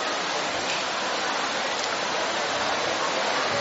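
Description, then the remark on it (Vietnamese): Steady rain pours down outside a church in a dense, continuous hiss that holds an even loudness throughout, with no distinct drips or pauses and no voices. “Còn trong nhà thờ ai mà mưa thì chúng ta ngồi vào trong bên trong này.”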